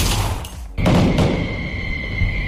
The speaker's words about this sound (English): The preloaded clips include recordings of gunshots and fireworks.